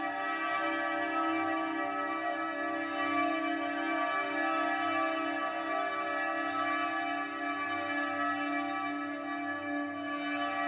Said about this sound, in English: This is a whole collection of smaller bells. Wow. It's like a chorus of bells. Yeah, it's like an instrument unto itself collectively, like a tapestry of sound.